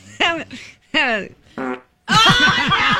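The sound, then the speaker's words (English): A person imitates loud farts with their mouth: three short, buzzy blasts followed by a longer, louder, sputtering one, fairly forceful. “If you can manage to make it through the day without giving away your hiding place when you're a fugitive to police by farting loudly. It was probably something a little bit louder than that.”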